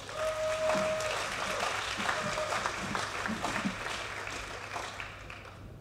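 An audience applauds steadily for several seconds, a dense wash of clapping hands that gradually thins out, with a brief high tone heard early on.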